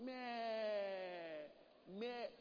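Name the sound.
sheep bleating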